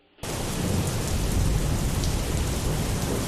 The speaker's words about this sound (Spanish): Y este sonido de poderosa lluvia nos lleva a hablar de la leyenda de Santa Tegra.